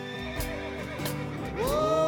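A horse neighs in a loud, wavering whinny that swells and rises near the end, over a steady musical backing with soft rhythmic thumps; no one speaks.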